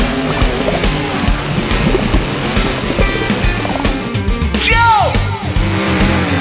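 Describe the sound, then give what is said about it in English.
A green monster truck revs its motor as its wheels spin and churn through mud with a loud, continuous roaring rumble, and a rising and falling whine sweeps through near the end before the grinding noise carries on. “Vroom, vroom, zoom, zoom, up it goes. Spin your wheel. Into the mud.”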